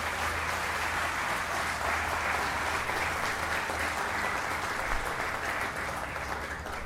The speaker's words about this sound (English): So we have some of them here with us tonight. So a round of applause for VFA 32. Thank you.